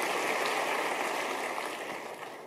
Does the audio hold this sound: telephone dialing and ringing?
no